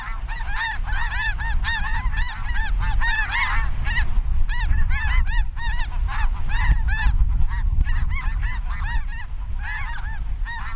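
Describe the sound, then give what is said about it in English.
A flock of Ross's geese, small white geese with small pink bills, calls continuously in flight, dense overlapping high honks layered together, with steady low wind rumble underneath throughout. “This is Ross's with its small pink bill. Here they are in flight with wind.”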